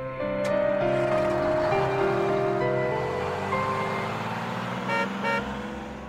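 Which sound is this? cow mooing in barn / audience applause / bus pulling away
bus pulling away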